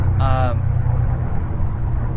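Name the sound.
airplane flying overhead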